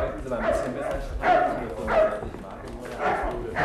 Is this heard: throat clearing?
no